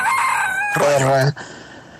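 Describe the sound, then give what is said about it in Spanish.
A rooster crows once, loud and shrill, its call rising and then holding a strained, buzzy note before breaking off abruptly, leaving a low background hiss. “Este es el gallo, y aquí somos honestos.”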